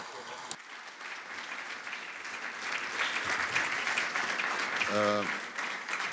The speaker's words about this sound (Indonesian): Saya berterima kasih pada para murid yang ada yang telah berjam-jam merencanakan hal ini dan mengadakan kesempatan ini. Kami harap Anda tepuk tangan bagi mereka.